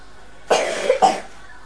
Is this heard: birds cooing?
no